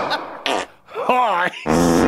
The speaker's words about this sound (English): 400 farts happening here, and a gavel.